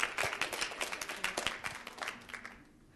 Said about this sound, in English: Give her a little clap.